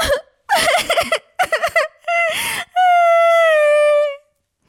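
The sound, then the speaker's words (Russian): A girl cries loudly: a few choppy, gasping sobs give way to a long, drawn-out wailing cry that trails off into silence. “«Всамделишная!» И вдруг заплакала.”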